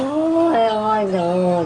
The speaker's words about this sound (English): Remember this cat? Oh, that cat was so mad. Oh, that's the Olong Johnson cat. Sounds like an ancient Japanese man.